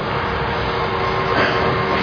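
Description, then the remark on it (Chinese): Steady, dense rumble of a moving train carriage fills the whole stretch, a broad continuous noise with no clear voices standing out, heard from inside at even loudness, from an online video of a three-cup shell game played on a train. “我去网络找，就是那个在火车上，不然都有他用三个茶杯或三个什么，然后有一个球”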